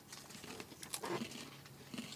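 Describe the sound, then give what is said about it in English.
Crunchy, wet chewing noises during a Facebook Live broadcast, with irregular crackly bursts and smacks. A steady mouth-sound rhythm runs over a couple of seconds, fairly quiet, with no talking. “Can you hear me chewing?”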